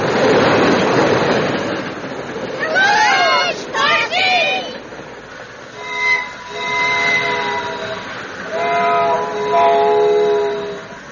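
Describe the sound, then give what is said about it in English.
A train speeds through a town at 80 miles an hour with a loud rushing roar at first, followed by swooping whistle cries and several sustained horn blasts as it continues on, prominent throughout. “He rode in the engine right up with the engineer and came speeding through town at 80 miles an hour.”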